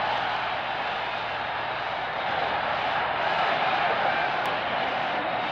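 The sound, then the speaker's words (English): A huge stadium crowd at Yankee Stadium roars in a steady, unbroken wall of cheering after Ken Boyer's grand slam home run in Game 4 of the World Series. The cheering holds at full volume for several seconds, with no one speaking over it. “It is a home run. Listen to the crowd.”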